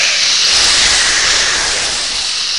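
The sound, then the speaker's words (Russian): Loud, sustained hissing from snakes, a harsh airy sound that holds steady for a few seconds with no pauses and no voices. “К сожалению, в моем программном обеспечении отсутствует переводчик с языка змей.”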